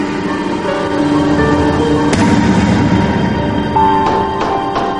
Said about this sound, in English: Looking out a window, Zoe pitifully bangs on the glass, a shawl around her shoulders and her head wrapped in a scarf.